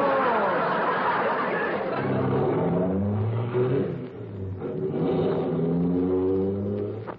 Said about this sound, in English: In real life, a car ride sounds more like this. Now what? Turn on the ignition, stupid.